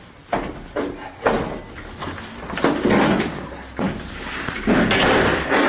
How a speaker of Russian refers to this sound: Хату вскрыли, сейчас вторая вскрывается. Давай. Ваши. Верхние, верхние замки. Дверь распетрушена.